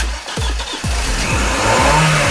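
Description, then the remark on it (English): A turbo car engine revs hard, its pitch climbing and dropping repeatedly as if shifting through gears, loud and alone with no voices. “Hey, my dad's got astigmatism 16-valve turbo.”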